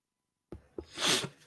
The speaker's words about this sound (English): Looks like I need to blow my nose. Or I need to sneeze at least.